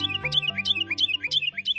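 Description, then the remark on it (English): A Carolina wren sings a loud, rolling phrase repeated about five times in quick, steady rhythm, bright, with a low sustained tone humming underneath. “Though half the size of a robin, the Carolina wren has a powerful singing voice that seems to come from a much bigger bird.”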